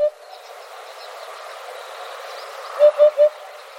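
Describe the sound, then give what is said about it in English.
A hoopoe gives its soft, hollow three-note call, "oop-oop-oop," evenly spaced, over a steady background hiss of insects, with one earlier note briefly at the start; a recording from the Macaulay Library at the Cornell Lab of Ornithology. “Special thanks to the Macaulay Library at the Cornell Lab of Ornithology for our bird sounds, including this hoopoe.”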